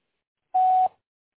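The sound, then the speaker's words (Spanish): A single steady electronic voicemail recording tone beep, clear and fairly loud, holding one pitch for about a third of a second before cutting off, with silence on either side. “Grabe su mensaje después de la señal.”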